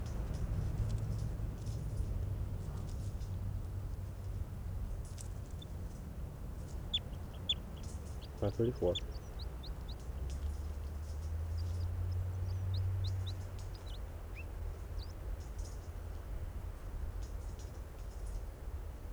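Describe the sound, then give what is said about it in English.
Scattered short, high-pitched chirps from a recorded bird, numbered 534, come and go over a steady low rumble, with a brief clucking burst near the middle and no talking. “Recording now, bird 534.”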